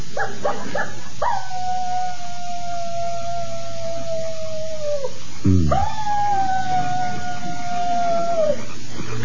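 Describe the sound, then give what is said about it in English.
A person imitates a coyote: a few quick yips, then two long, wavering howls, each sustained for several seconds and sliding down at the end, loud with no other talking. “How'd you like my imitation of a coyote?”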